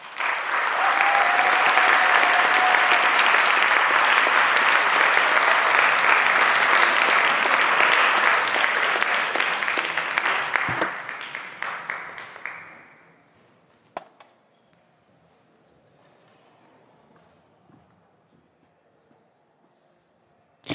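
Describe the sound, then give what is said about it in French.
A crowd applauds warmly for a speaker being introduced, loudly and steadily for about ten seconds, then the clapping thins out and fades, leaving a few scattered claps and quiet background noise. “Je vous demande d'applaudir chaleureusement, vous aussi derrière votre ordi,”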